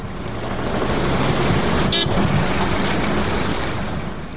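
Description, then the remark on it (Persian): A continuous, loud roar of cars speeding past on a dusty street in Kabul, blowing up the road dust, a broad rushing wash of traffic noise with a brief sharp click near the middle and a faint high whine toward the end. “دیگه دریورا تیز میدوانند که کتی موتراشان سرکا را پاک کننننی.”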